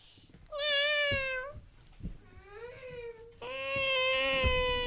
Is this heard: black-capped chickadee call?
no